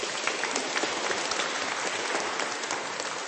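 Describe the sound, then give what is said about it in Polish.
A large audience claps steadily to welcome a group from the Holy Trinity parish in Komarów, a dense, continuous wash of applause that stays loud and even from start to finish with no voices rising above it. “Brawa dla was.”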